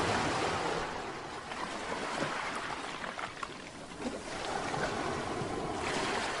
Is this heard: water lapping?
yes